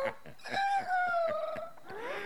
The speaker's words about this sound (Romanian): Moșneagul, cum aude glasul cucoșului, iese din casă și când aruncă ochii spre poartă, ce să vadă?